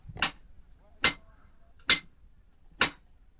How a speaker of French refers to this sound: À plus de 20 mètres dans les entrailles de la terre, un marteau brise le silence. Au fond de cette galerie, c'est l'obscurité totale. Seule une lampe frontale balaye la paroi rocheuse.